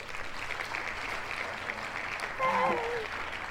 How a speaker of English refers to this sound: Hang on, we're going to do the little cheer. Where's my little cheer? Here.